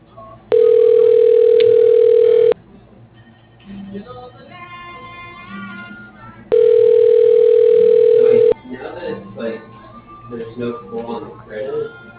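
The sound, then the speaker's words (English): Two loud, steady telephone ringing tones on an outgoing call to a home repair business, each lasting about two seconds and spaced several seconds apart, with people talking quietly in between. “So now we're just copying and pasting the dial, right? Not trying to pick it up.”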